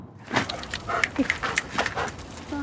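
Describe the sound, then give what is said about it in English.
A state troopers' drug-sniffing police dog whimpers and whines during monthly training in a series of short, high-pitched bursts with snuffling breaths between them, with no one speaking. “Troopers with drug-sniffing dogs.”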